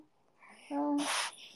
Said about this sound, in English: Did you guys hear that? That was my dog. She's so tired of me.